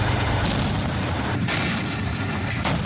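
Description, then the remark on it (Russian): A loud explosion roars through the whole clip as a dense, rumbling blast with debris-like crackle, and two sharper bursts punch through near the middle and the end, as Russian sappers destroy anti-personnel mines on site around a factory perimeter. No one speaks. “Противопехотные мины уничтожают на месте.”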